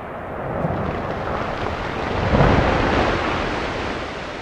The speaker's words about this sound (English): And you can hear them throughout the valley. It's pretty amazing how loud those ice sheets can be when they come crashing down.